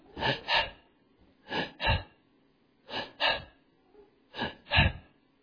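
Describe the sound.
A voice imitates a sick child's labored, gasping breathing: four paired rasping breaths, each a quick double heave, repeated at a steady rhythm, fairly loud with brief quiet gaps between, no talking.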